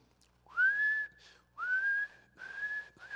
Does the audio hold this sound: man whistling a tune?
yes